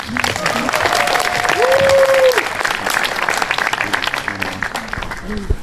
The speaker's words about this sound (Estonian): No, aplaus, palun.